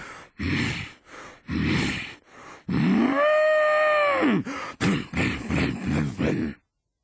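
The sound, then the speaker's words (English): A voice imitates an angry bull charging about, with a series of rhythmic grunting snorts around one long, drawn-out bellowing moo, loud, followed by more huffing snorts. “When the hungry sheep is full, I charge about like an angry bull.”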